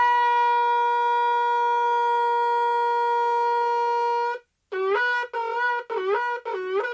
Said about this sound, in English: The howling sound of the shofar causes us to tremble, to shake us up a little bit, and bring us back to the state of the unblemished soul.